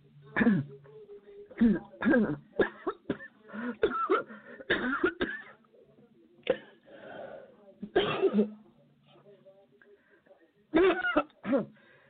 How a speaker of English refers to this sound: Excuse me, see, I just had to cough.